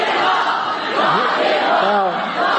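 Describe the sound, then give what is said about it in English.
A crowd of women cheers in a steady, loud roar, with individual voices whooping in rising and falling cries over the din for a couple of seconds. “Look at all these hopeless women, too. Look. Cheering their pedophile god.”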